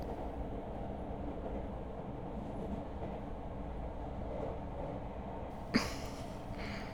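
Steady low rumble of a train in motion as heard from inside a carriage, a continuous droning hum with faint rhythmic rattling and a brief sharp clack near the end.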